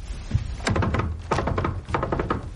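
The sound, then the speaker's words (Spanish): A woman knocks several solid times on a wooden door, heavy thuds arriving in uneven pairs and clusters, fairly loud, with a faint room hum between them and no talking. “Ella se levanta de la cama. Golpea la puerta de visoría.”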